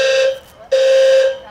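fire alarm going off

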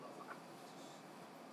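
train interior rumble

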